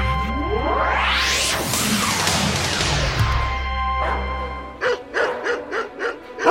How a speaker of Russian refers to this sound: Ой, какие злющие собаки! Скалятся, рычат, с поводков рвутся.